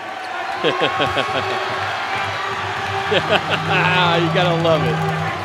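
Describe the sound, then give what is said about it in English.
A crowd cheers and shouts over a steady roar during senior night player introductions, with rising whoops near the end and a few sharp ball-bounce thuds early on and midway. “the crowd's going to love Will Ricketts”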